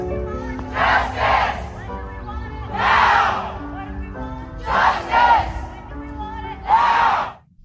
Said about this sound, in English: can hear them screaming and shrieking and going up and down the residential neighborhood.